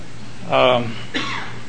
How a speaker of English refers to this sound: I wasn't planning to do that, but excuse me for clearing my throat in the microphone.